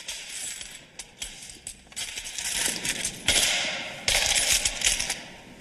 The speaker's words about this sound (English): He grabs one of the collection plates and lets the coins run through his fingers.